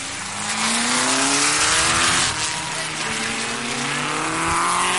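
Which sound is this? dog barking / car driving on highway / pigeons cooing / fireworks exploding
car driving on highway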